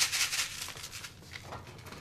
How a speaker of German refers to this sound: Das, was hier so rieselt, ist eine weiße CD-Hülle mit Sand gefüllt.